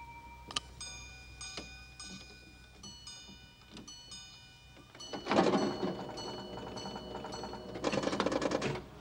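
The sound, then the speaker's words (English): A pocket watch ticks steadily while its delicate, high chiming melody rings out, then loud bursts of rattling bells from a pinball machine wash over and drown out the chimes twice. “He looks frustrated and clicks his watch again once it's quiet.”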